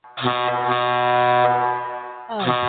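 A loud, sustained air horn sound effect, triggered by a click, blares with rich harmonic tones for about two seconds, then a second blast kicks in right after a brief dip, sounding harsh.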